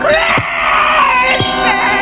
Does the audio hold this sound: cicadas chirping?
no